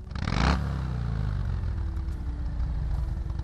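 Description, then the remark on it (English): A 2007 Harley-Davidson Sportster XL 1200 motorcycle engine roars in a loud burst for about half a second, then settles into a steady, deep, throbbing idle with a low rumbling pulse. No voices are heard. “It was the sound of a 2007 Harley-Davidson Sportster XL 1200.”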